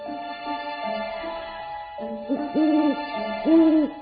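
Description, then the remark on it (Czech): An owl hoots with no one talking: a few soft, steady tones at first, then two louder, rounded hoots that swell and fall, clear. “Nije čak ni viknula mudra sova.”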